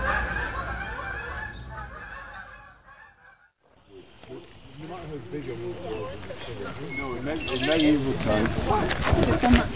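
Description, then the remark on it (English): A flock of migrating birds calls with overlapping honking cries at Point Pelee, a national park on Lake Erie in southwest Ontario. The chorus thins to a brief lull, then returns louder and denser through to the end. “It's a point that juts out into Lake Erie, and it's a rest stop for bird travelers.”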